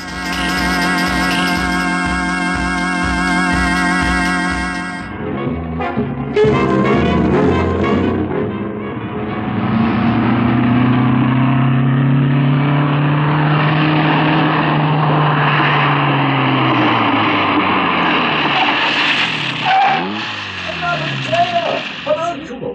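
Formula 1 race car engines scream at high pitch in a car race, first a steady buzzing drone, then loud roaring passes whose whine swoops up and falls away, overlapping one another in a busy racing din.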